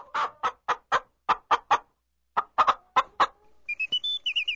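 A chicken clucks in quick, rhythmic bursts, three short runs of sharp clucks separated by brief pauses, then ends with a few higher, squeaky chirps. It is clear, with no talking.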